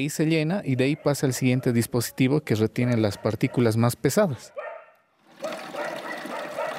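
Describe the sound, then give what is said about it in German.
A person talks for several seconds, then after a short pause a woman turns on the tap and a steady, fairly loud rush of tap water pours into a basin holding a few blouses, continuing to the end. “legt ein paar Blusen ins Becken und dreht den Wasserhahn auf.”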